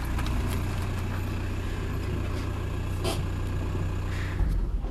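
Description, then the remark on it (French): A car engine rumbles steadily, low and throaty, with brief hissing bursts as the car pulls in and settles on arriving home, no voices over it. “Ça y est, il vient de rentrer. Il y a sa voiture.”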